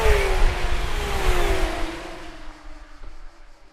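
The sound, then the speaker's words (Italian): A loud, high-revving racing car engine roars past at a racetrack (autodromo) in Italy, its pitch sliding steadily downward as it fades over about four seconds, with no voices present. “Le voci della piazza si mescolano a quelle dell'autodromo, in una terra innamorata dei motori e della politica.”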